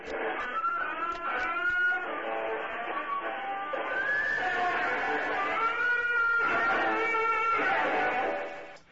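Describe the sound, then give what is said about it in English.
Loud, reedy squeals and grunting bends run almost without pause for about nine seconds, a buzzy instrument-like sound mimicking pig-like oinking. “Ooh, that's some oinkage there”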